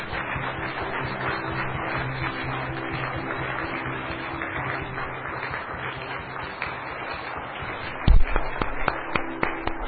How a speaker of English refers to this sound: So, God bless you for today. We can clap our hand for our Lord Jesus.